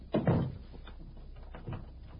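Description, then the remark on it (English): The door of a room at the top of the Savoy thuds shut with a solid knock, followed after a pause by a second fainter clunk, like a bolt or lock being turned. “Close the door and lock it.”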